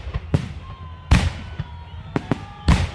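Fireworks bang in a quick, irregular series of sharp, loud bursts, about six in three seconds, with faint whistling tones rising and trailing between the blasts.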